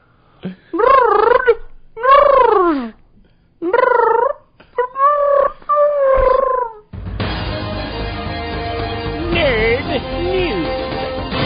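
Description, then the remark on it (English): A voice imitates the Action Room mascot pigeon, a messenger carrier pigeon, with four or five warbling, swooping coos in short bursts, some gargly and throaty, before a dense, steady burst of music takes over, leading into the nerd news segment. “And now, the pigeon is going to take us into the nerd news. Pigeon, can you take it away?”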